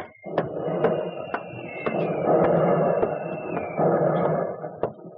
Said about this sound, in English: Listen to that, will you? Yes, pretty heavy. No lack of ammunition there if they can afford to throw stuff around like that.